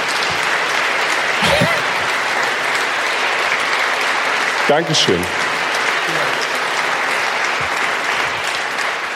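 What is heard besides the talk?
audience applause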